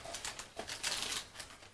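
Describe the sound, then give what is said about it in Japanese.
Crackly, rasping bursts of cellophane tape being pulled and stuck, several quick scratchy pulls in a row, moderately quiet, with no voices. “セロテープ貼る。”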